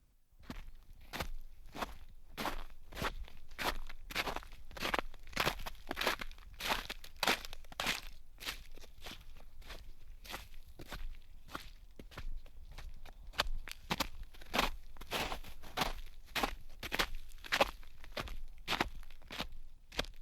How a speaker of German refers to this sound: Grundlage der Musik sind die Schritte sehr vieler verschiedener Menschen aus unterschiedlichen Ländern. Im Zeitraum der vergangenen Jahre nahm ich Schritte von Männern, Frauen und Kindern in England, Italien, Österreich und Finnland auf.